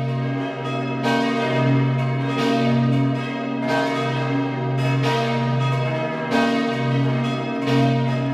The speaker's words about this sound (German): Es ist 12 Uhr. Sie hören die Glocken der Kirche zum heiligen Sebastian in Hart in Vorarlberg.